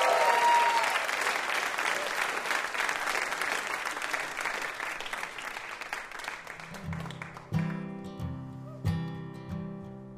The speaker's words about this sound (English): Have a round of applause for our VIP, Steven Strogatz.